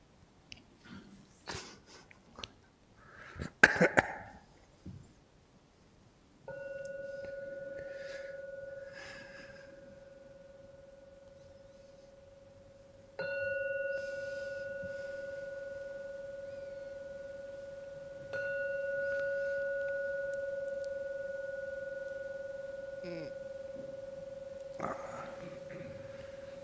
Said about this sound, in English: And now I'll ring the gong to end the meditation, because I'm supposed to give a talk. So please listen to the three sounds of the gong. When the last one finishes sounding, you may come out of the meditation.